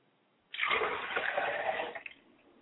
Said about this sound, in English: We like to pour a glass of water for our Father's spirit, and we say Ashe.